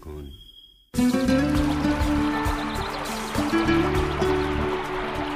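After a brief quiet moment, water starts flowing steadily, a continuous splashing trickle with a faintly rising tone, like a vessel filling, lasting several seconds.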